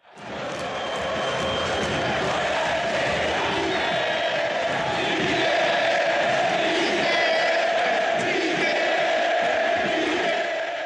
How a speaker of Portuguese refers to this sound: É um apoio? Recado claro, né? É um apoio maciço. Claro, um apoio maciço dessa torcida. E como era de se esperar, porque ele é muito importante.